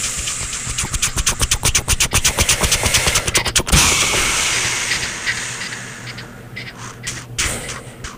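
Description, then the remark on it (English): A train approaches with a fast, steady clatter of wheels over rail joints, then gives way to a loud rushing hiss that slowly fades, with a few faint knocks near the end. “Oh, I hear it. There it is. There it is. Right on schedule, as usual. The train to Sleepy Town.”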